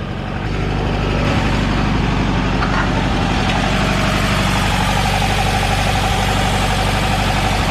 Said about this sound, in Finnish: Näin kauniina aamuna hieno laittaa kupla käyntiin ja fiilistellä sitä, että miltä se tuntui silloin, kun sitä tänne Suomeen ensimmäisen kerran saapui, niin olisi kyllä, tänään on juhlapäivä.